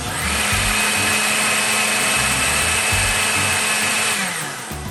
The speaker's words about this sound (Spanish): Después retiramos del fuego y llevamos la preparación a la licuadora y licuamos hasta obtener una crema suave.